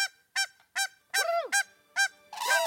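A swan calls in a run of about seven loud, nasal honks, each short and brassy, the last few drawn out and slightly rougher, with no voices.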